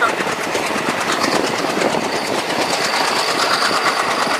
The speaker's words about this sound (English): Yeah, we're on the train here. It's quite an experience in India to ride the train. Yeah, I mean, the doors are open. You can hang out and just do what you want to do, and that's what we're doing here.